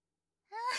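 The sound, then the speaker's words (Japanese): After a moment of silence, a short breath is blown into the listener's ear: a brief soft voiced sigh that turns into a steady, airy hiss of exhaled air, with no talking. “ごめんなさい、吐息を吹きかけられながら喋られるとくすぐったいですよね。”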